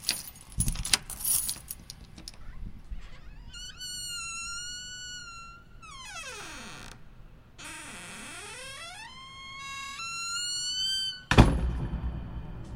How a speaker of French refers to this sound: Je me levai brusquement et me dirigeai vers cette fichue porte pour insérer la clé dans la serrure. Et comme par magie, la porte s'ouvrit.